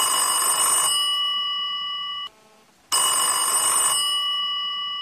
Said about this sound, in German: Nach zweimal Läuten hebt ein verschlafener Weihnachtswichtel ab und murmelt ins Telefon.